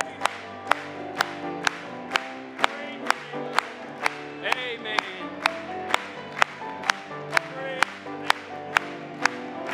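A church audience claps in steady unison, about twenty sharp, evenly spaced claps on the beat, over a sustained bed of music and voices singing the hymn "There Is Power in the Blood".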